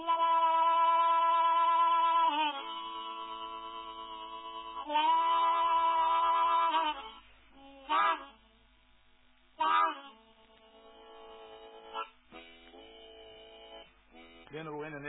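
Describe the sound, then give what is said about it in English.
A lonesome train whistle is imitated with long, wavering, reedy wails: two sustained blasts, then several short sharp hoots and softer trailing tones, with no talking. “You know, he pulled his whistle and the blow was red lonesome, sort of like this.”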